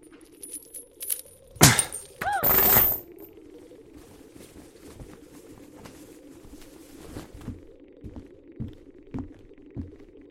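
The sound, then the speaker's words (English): A sharp metallic crack as a handcuff chain is pulled with sideways twisting force and shatters, followed by a brief jangling clatter of links, then a low steady hum with faint periodic ticks; no one speaks. “One much sturdier than the handcuffs I just shattered.”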